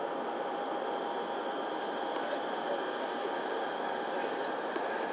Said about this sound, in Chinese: 下一站朱辛庄。 The next station is 朱辛庄。 换乘地铁八号线的乘客请准备下车。 Change here for line 8. 列车即将到达朱辛庄站。 We are now arriving at 朱辛庄。